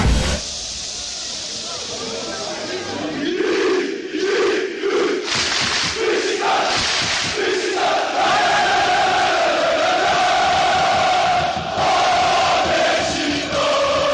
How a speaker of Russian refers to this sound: Так звучит стамбульский Водафон Парк. Здесь играет футбольный клуб «Бешикташ». Его болельщики считаются самыми громкими живыми существами на планете.